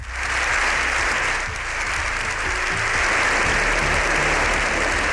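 Sustained, dense applause from a large crowd, steady and loud throughout with no pauses: an ovation of more than seven minutes in Spain's Congress of Deputies after a speech by the Pope.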